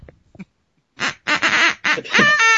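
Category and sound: tool, duck call being blown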